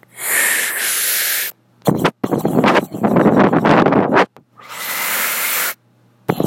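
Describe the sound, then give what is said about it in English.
A voice imitates scuba breathing: a long, steady hissing inhale, then a rough, sputtering exhale of bubbling bursts, followed by another hissing inhale. The sounds are loud and there is no talking. “all you can hear is your breath, like with all the bubbles, and then you hear the, and then blah, blah, blah, blah, blah, blah, blah.”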